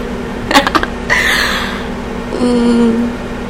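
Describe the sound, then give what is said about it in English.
A microwave oven hums steadily while defrosting food without a plate, its low electrical drone running throughout, punctuated early by a quick burst of clicks and rattles and later a brief rising whir. “That is some loud microwave noises.”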